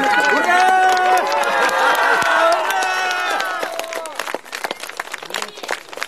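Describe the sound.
A loud burst of applause from a crowd at a search headquarters in the Bolsherechensky District as searchers carry out a found little boy: dense clapping mixed with excited overlapping voices, then thinning out to scattered claps over the last couple of seconds.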